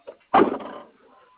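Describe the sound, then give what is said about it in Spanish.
A faint click, then a solid metallic clunk as a door latch releases and the door swings open, with a brief rattle that fades quickly. No voices. “Ahí va la otra puerta.”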